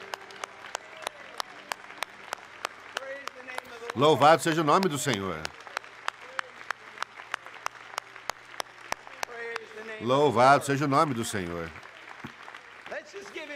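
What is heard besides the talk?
audience applauding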